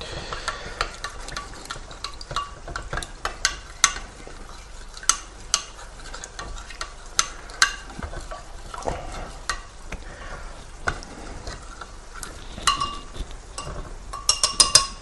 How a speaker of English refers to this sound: Now, I generally just sort of have a bit of a feel to see how much powder is left, and there are still a few bits of partly dissolved powder there, so we'll stir it a little bit more.